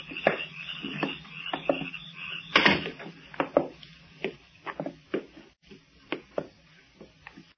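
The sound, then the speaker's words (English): A basement entrance door swings shut with a series of short, rhythmic creaks and clicks, broken by one louder thud partway through, then fainter creaks trailing off. No voices. “And close the door behind you.”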